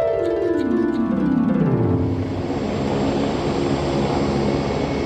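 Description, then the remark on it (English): The Little Wicker Basket's helicopter flies away, its engine drone dropping in pitch as it passes, leaving a loud, steady rotor roar and rumble that carries on to the end with no voices. “The Little Wicker Basket's helicopter is flying away just fine.”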